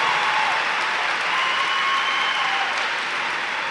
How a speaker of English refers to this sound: I know when they look out and see this large crowd, it probably blows their minds to how much Narcotics Anonymous has grown in the years that they've been here. I just want to like give them a little hand clap because I'm appreciative of them.